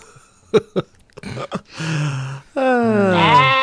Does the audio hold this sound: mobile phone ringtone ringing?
no